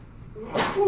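A single sharp sneeze bursts out about halfway through, loud, with a breathy hiss trailing off afterward.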